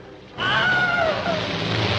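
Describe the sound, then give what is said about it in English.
A Wilhelm scream sound effect: a sudden, loud male yell that falls in pitch, sweeping down over about a second against a steady, noisy background with no talking. “Yes, this is one of the first movies to incorporate the Wilhelm scream.”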